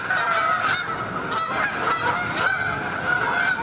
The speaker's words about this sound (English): Step outside and you might hear them, migrating after dark or flying above the clouds, invisible. The rhythmic honking of Canada geese is what you probably hear most often.